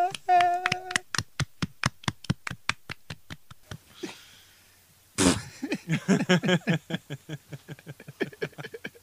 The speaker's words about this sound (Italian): Applausi.